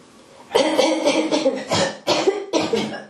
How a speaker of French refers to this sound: Une petite toux, un petit raclement de gorge, vous pouvez essayer ça si vous voulez.